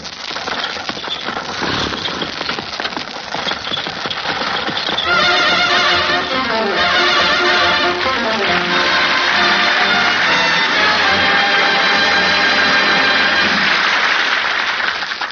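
A horse-drawn fertilizer spreader sound effect, meant as a spreader spreading its cargo over frozen Michigan fields: steady rattling clatter and clopping, joined midway by loud squealing, whinny-like tones that rise and fall over the continuous mechanical racket.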